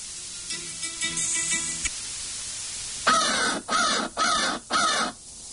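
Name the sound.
crow cawing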